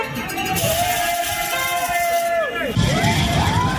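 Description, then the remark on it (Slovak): Graduating high-school students parading through the town with their class photo board, shouting and cheering in the street outside an apartment block: loud, overlapping drawn-out yells that rise and fall over a steady crowd hubbub, continuous for several seconds. “No a potom som zistil, že sú to maturanti, ktorí chodia takto s tablom po meste, ale dobrí boli,”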